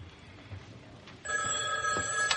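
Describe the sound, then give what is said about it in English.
A telephone bell starts ringing partway through, a steady bright electronic trill with sharp tonal bands, fairly loud, following a stretch of quiet room noise. “Oh, that's okay. I'll get it.”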